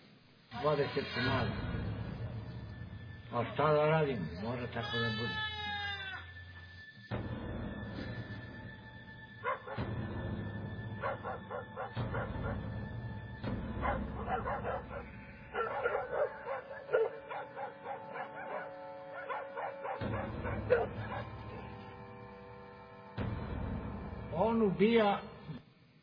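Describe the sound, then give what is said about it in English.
A wolf attacks bleating sheep, with loud canine yelps and whimpers mixed among wavering, frantic bleats that continue in overlapping bursts throughout. “I've got a short video here, just 30 seconds or so, that shows a little bit of a wolf attacking some sheep.”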